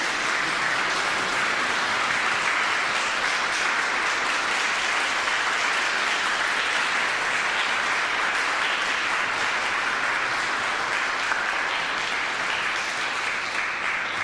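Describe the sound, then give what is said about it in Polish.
Sustained audience applause at the presentation of the Ambasador Polskiej Historii medal, a dense, steady wash of many hands clapping at even loudness for the full length, with no voices standing out above it. “Wielkie brawa!”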